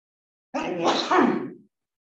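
A single stifled sneeze, fairly loud, with a muffled breathy build-up that bursts into a held-back snort lasting about a second, then silence.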